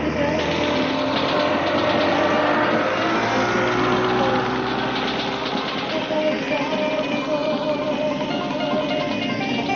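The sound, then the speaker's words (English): A gunboat's motor drones steadily and loudly, a continuous rumbling engine hum with a raspy, buzzing edge that holds an even level for the full length without pausing. “Boss, there's a third gunboat coming across behind us.”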